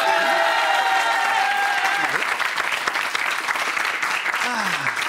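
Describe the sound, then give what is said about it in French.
A television show audience bursts into sustained, steady applause for a guest on the release of his album, dense clapping at an even loudness throughout, with a few whoops and voices rising from the crowd. “À l'occasion de la sortie de son album, on peut l'applaudir.”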